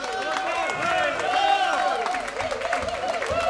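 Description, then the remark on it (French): A crowd in a hall at a Murray Big Band concert applauds the president of the band's association steadily and fairly loudly, with overlapping claps and some scattered voices and cheers mixed in, sustained for a few seconds. “qu'on peut applaudir très fort.”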